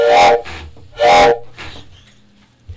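A steam train whistle sounds two loud, bright blasts, each followed by a softer echoing tone, over a low rumbling chug that continues after the whistle fades.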